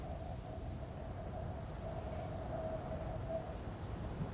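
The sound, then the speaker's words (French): Desert wind in Djibouti, recorded by Lucien Valibar while filming Les Chevaliers du Ciel, blows in a steady, unbroken rush with a deep rumbling low end and a thin, faint whistling tone hovering above it. No voices, just a constant, even wash of air. “c'est Lucien Valibar qui l'a enregistré quand il tournait Les Chevaliers du Ciel, et c'est un vent qu'il a fait dans le désert à Djibouti.”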